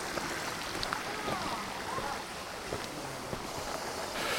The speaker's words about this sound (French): Par contre, ce qui est cool, c'est la rivière. Je crois qu'il ne doit pas y avoir plus belle chose au monde que d'avoir un terrain et une rivière qui coule. Beau, hein?